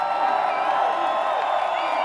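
crowd screaming and cheering

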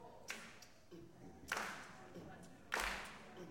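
rhythmic hand clapping

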